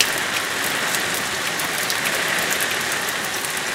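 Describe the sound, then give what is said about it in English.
Steady rain pours down continuously in foggy, cold weather, a dense, even hiss of drops with no breaks, fairly loud, with no voices present. “The rain had been falling incessantly for 3 days now, and it was foggy and cold.”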